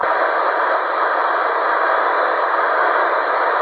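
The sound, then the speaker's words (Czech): A steady wash of radio static hiss fills the whole stretch, loud and unbroken, with no voice coming through the noise, on a radio transmission that keeps fading in and out. “Chvíli je, chvíli není.”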